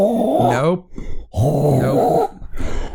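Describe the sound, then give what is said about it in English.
A person makes loud throat hawking noises, known as horking: two long guttural, rasping bursts like hacking up phlegm, with shorter throaty sputters between and after them. “You sound like a cat trying to get up a hairball. Hacking up. It's called horking, apparently.”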